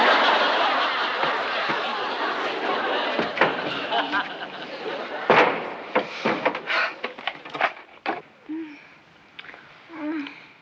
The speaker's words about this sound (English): Don't slam the door.